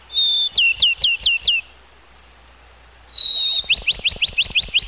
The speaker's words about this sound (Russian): Ну, воробьиное чириканье, конечно же, слышали все.